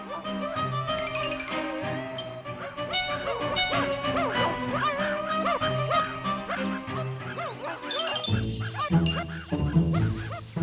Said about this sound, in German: Indes kam ein Jäger mit 4 Hunden daher.